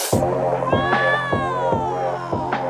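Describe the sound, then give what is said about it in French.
Two Persian cats fighting in front of onlookers, caterwauling in a long, drawn-out yowl whose pitch slowly wavers and bends, loud, with a regular thumping pulse beneath it and no talking. “Mais une bagarre entre deux chats persans, et qui plus est devant tout le monde, j'avoue qu'on n'avait encore jamais vu ça ici.”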